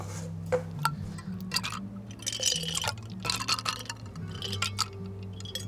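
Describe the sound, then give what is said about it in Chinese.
Ice cubes clink and rattle as they drop one after another into a cup of hand-shaken milk tea at a franchise milk tea shop, with some liquid splashing, over a steady low background hum. “哦，对了，还有最重要的冰块。”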